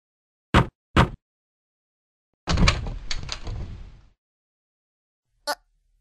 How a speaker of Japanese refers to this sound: 私は我慢できず、この日、初めて自分から兄貴の部屋の扉を開けた。